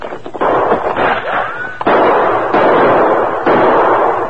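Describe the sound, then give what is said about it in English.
Several loud gunshots crack out at uneven intervals in a canyon, each sharp report trailing into a long, echoing rumble that fills the gaps between shots, an exchange of gunfire with shooters up the side of a hill, answered by Tonto. “Tonto, you continue to give answering shots to theirs.”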